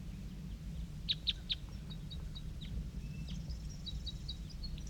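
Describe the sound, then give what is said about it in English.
A newly arrived wild female bird calling in short, high chirps, a few sharp notes in a quick group followed by softer, scattered chirps over a steady low rumble of background noise. “That's her calling right there.”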